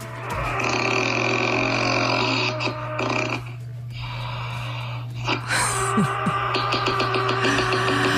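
A man snores loudly and roughly, each long rasping, roaring breath full of grunting rattle, with a brief quiet pause partway through before the harsh snoring resumes. No one speaks.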